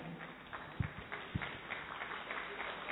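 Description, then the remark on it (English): A crowd applauds steadily, a dense wash of clapping at moderate volume, with a couple of sharper thumps standing out early on. No one speaks over it. “May we give another round of applause for Sister Ina.”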